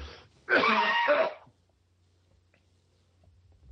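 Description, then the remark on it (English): A single loud, raspy throat clearing lasting about a second, followed by near silence with a faint low hum. “Let me clear my throat just a moment.”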